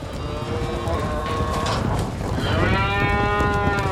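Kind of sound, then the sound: animal, bulls mooing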